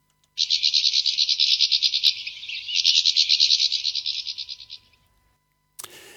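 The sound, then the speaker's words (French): A bird squabbling at a feeder gives a loud, rapid buzzy chatter of calls, a continuous stream of fast pulses lasting several seconds before stopping, followed by a brief noise. “C'est à la mangeoire qu'on peut entendre les cris lorsqu'il se chamaille.”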